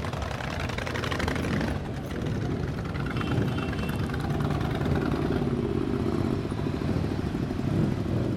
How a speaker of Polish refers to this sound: Parada wyruszyła sprzed gmachu Polsko-Słowiańskiej Federalnej Unii Kredytowej na Greenpoincie. Auta przejechały przez te obszary, choćby Brooklynu, no, gdzie mieszka wielu naszych rodaków.